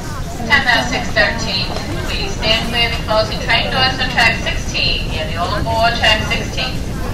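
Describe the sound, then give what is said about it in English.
A crowded indoor station hall at Penn Station: many overlapping voices murmuring and chattering at once over a steady low rumble, with footsteps and clatter mixed in, continuous and fairly loud throughout. “This is the Central Florida of a Penn Station.”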